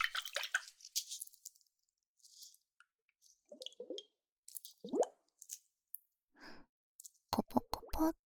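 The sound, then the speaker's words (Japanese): Liquid sloshing inside a maracas-shaped glass ice globe filled with a special liquid as it is shaken: irregular wet plops and squishy gurgles in short bursts, ending with a quick run of sharper clicks. No one speaks. “このマラカスみたいな形のガラスがアイスグローブで、特殊な不透液が入っています。”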